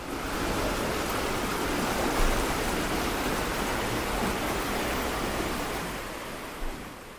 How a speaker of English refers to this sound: We are now crossing the Vltava on a boat, heading from the Old Town to the Lesser Quarter and Kemper.